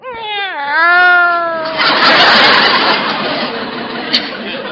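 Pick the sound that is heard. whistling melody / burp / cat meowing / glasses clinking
cat meowing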